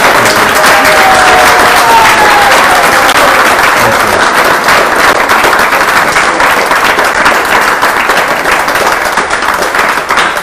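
Sustained warm applause from an audience, dense steady clapping that stays loud and even for about ten seconds, with faint cheering voices mixed in early on.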